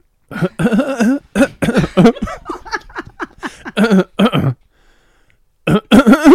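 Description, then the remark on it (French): A rapid series of short, pitched coughs from a voice, strung together rhythmically as if tracing a song melody, then a brief pause before a few more coughing notes. “Je découvre que je tousse pas juste.”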